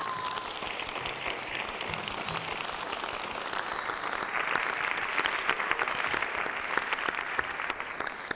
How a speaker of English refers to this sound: I think they deserve a huge round of applause.